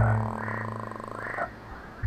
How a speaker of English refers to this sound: Can you hear him? Bufo, Bufo, the common toad.